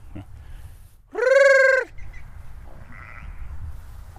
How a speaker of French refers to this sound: On rentre dans le parc des brebis maintenant. On va appeler les brebis peut-être.